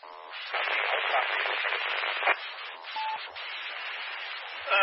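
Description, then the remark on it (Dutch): Steady, band-limited radio static hisses for about five seconds, with a faint, barely intelligible voice calling somewhere inside the noise and a brief louder crackle near the middle. “Heb ik die in de ruis gehoord?”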